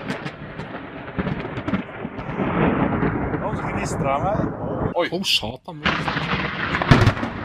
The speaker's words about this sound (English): And also, you must see the video because it burns his entire yard. Mm. It's just like blackened, but the sound is amazing. This is a lightning strike right here. That's the first one.